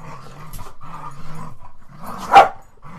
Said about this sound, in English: By the way, in case any of y'all are wondering, those are the sounds of dogs at play. They're not mad at each other. They're just being dogs. Just being roly-poly, rugby-playing dogs. Just right now, they're knocking the tables around.